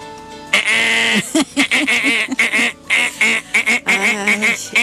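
On a radio show, a voice imitates the last-minute buzzer with loud, nasal, honking bursts: one long blast, then a rapid string of short choppy honks, and a final sustained blare.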